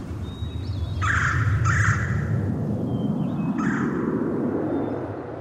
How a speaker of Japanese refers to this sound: 虫の声や 鳥のさえずりが聞こえてくる白いキャンバス、その上に渡し船と櫓を操る船頭が現れます。